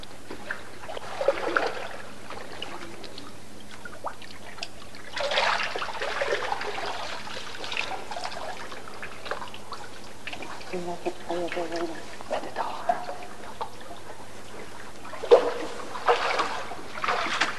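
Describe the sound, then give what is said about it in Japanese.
Water splashes and pours in several separate bursts during a Christian baptism, moderately loud, with quieter trickling between them and a brief murmur of voice partway through. “父と御子と聖霊との皆によって 私はあなたに洗礼を授けます。”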